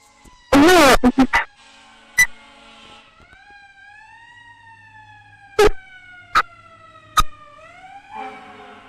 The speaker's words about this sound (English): There's a siren in the background, hold on.